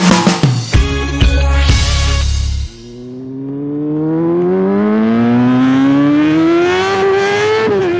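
A motorcycle engine revs loudly in a few sharp bursts, then pulls away in one long, steadily climbing acceleration, alone without any voices.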